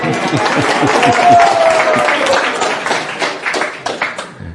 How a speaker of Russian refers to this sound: Он хочет аплодисментов, пожалуйста.